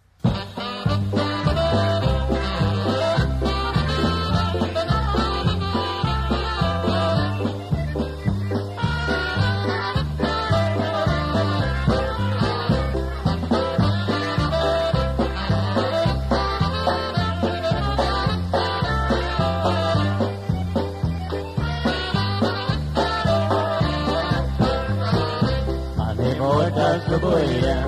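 Upbeat band music plays continuously at a steady, loud level, with a bouncy bass line and dense instrumental harmonies driving a lively dance rhythm throughout.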